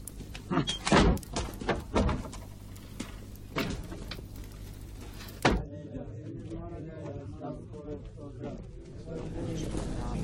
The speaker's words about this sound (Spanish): No cierren fuerte la puerta al salir. El ruido me molesta.